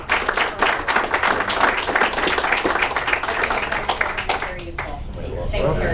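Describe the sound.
A steady round of applause from a group, many hands clapping in a dense, continuous patter that holds for several seconds with slight ebbs, and a faint murmur of voices underneath.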